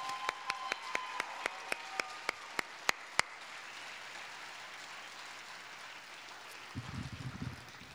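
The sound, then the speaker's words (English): An audience at a live music show applauds a family sitting in the crowd in a steady wash of clapping, with a run of sharp, quickening individual claps standing out at the start before the applause carries on evenly; a brief low rumble comes near the end. “They're sitting right there, so you should clap for them right there.”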